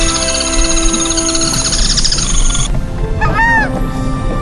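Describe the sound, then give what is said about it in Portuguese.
A dense chorus of birds calls at dawn over the Iberá wetlands, home to about 400 bird species, with honking and quacking waterfowl and a few clear rising-and-falling whistles standing out near the end. No one speaks. “Existem cerca de 400 espécies de aves por aqui. Além de ser deslumbrante de ver, é delicioso de ouvir.”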